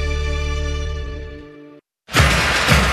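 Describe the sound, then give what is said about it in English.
A sustained tonal chord fades out, then after a short silence a loud crash of a windshield's glass shattering bursts in and rings on briefly with scattered noisy debris. “This Buckeye season, don't let a broken windshield ruin your game plan.”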